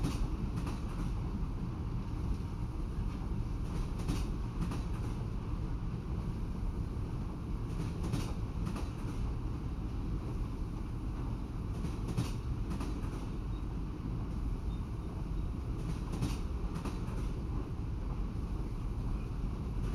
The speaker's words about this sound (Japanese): 線路をゆっくり進んでいるサンライズエクスプレス鈴見だけど、明日には終着駅に着くわ。